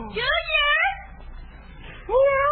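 A cat meows twice, fairly loud: one long, wavering meow, then a pause with faint background noise before a second, shorter meow begins.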